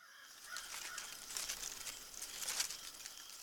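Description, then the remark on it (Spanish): Frogs croak in scattered, raspy bursts over the steady babble of a stream in a forest at night, both fairly faint, with no voices present. “Esas son las ranitas, como mi amiga Rani. También se escucha clarito el canto del arroyo.”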